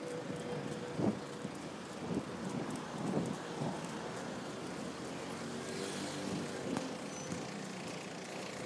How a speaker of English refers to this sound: Past the middle of Vauxhall Bridge, we've been descending back down again. You can hear there's lots of traffic not really going anywhere.